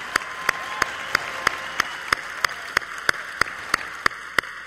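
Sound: audience applause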